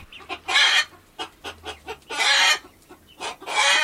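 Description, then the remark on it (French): A hen clucks in a quick, uneven series of short clucks, broken by three louder, drawn-out squawking bursts. No one speaks. “Il mange puis il demande à sa poule de pondre un œuf en or.”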